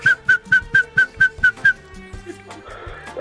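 A world champion musical whistler whistles a tune for Radio 1 listeners: eight short, evenly spaced notes on a steady pitch, followed by softer held whistled tones over a low musical backing, with no talking.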